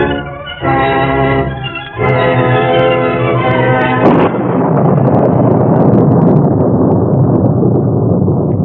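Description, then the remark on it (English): A loud, sustained musical chord swells, then a sharp thunderclap from an evening storm, with jagged lightning, torrential rain and wind howling across desolate countryside, cracks about halfway through and rolls into a long, steady roaring rumble that carries to the end. “Jagged lightning streaked across the evening sky. Rain fell in torrents, and the wind howled across the desolate countryside.”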